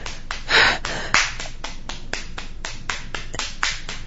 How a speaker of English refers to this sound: My hand is just slapping her cunt. Oh, God. She says harder. Oh, harder. I slap her so hard.